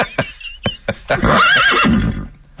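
A horse whinnies loudly, a long wavering neigh after a few sharp percussive knocks, with no talking over it.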